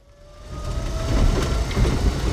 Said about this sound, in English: The whir of an old electric British milk cart as it whizzes past row homes to its next stop in suburban East London. It's sort of a long golf buggy. There are no doors. At the back, glass milk bottles jangle in black plastic crates.